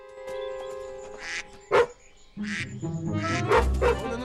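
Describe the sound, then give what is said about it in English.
Ducks honk loudly in a series of harsh, nasal calls, one after another, with bursts of noisier squawks mixed in and no voices. “Then he hears a loud honk.”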